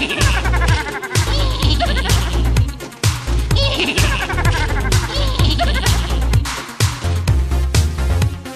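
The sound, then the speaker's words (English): Several voices imitate a horse's whinny together, loud, quavering neighs repeated over a steady, bass-heavy musical backing that keeps a regular beat throughout. “Together, we'll sound like a horse.”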